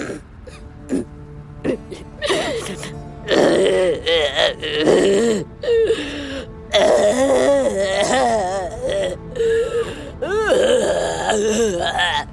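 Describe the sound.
A dinosaur cries and moans, with drawn-out wavering wails broken by short sobbing gasps, growing louder and more insistent through the middle and continuing to the end.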